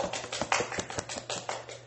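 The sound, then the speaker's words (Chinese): A church audience applauds after a member's testimony, with many hands clapping in a dense, steady patter of sharp, crisp claps. The sound is fairly soft and there are no voices over it. “让我一起给你掌声”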